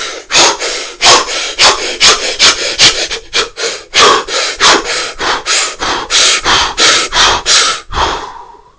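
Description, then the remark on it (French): Rapid, forceful breaths pushed in and out in a steady rhythm, about twenty harsh, loud puffs over several seconds, with no talking; a person deliberately forces the breathing with effort and muscular contraction as a demonstration. “Tu mets de la force, vraiment tu forces la respiration, tu produis un effort, une contraction musculaire, voilà, on est dans l'effort, d'accord?”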